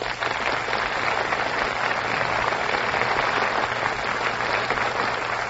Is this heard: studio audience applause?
yes